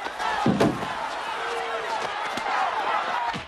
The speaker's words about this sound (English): Wilson grabs Philo around the waist and throws him against a parked sports car.